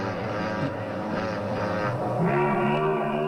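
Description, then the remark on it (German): A motorcycle engine drones steadily with a rich, buzzing harmonic tone, its pitch climbing higher partway through as the revs increase. There is no talking. “Das war eindeutig ein Motorrad, zwischendurch eine Kuh.”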